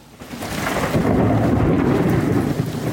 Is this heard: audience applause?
no